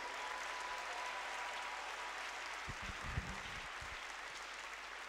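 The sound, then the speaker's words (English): An audience applauds in celebration of God in a steady, dense wash of clapping that holds evenly for about five seconds, with a few low thumps partway through and no one speaking. “And I think that at this moment, he deserves a clap and a celebration.”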